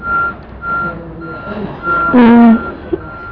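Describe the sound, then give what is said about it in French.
A truck's reversing alarm beeps steadily at even intervals over a low engine rumble, with a brief louder tonal blare partway through. “Ça c'est un camion. Un camion qui fait marche arrière.”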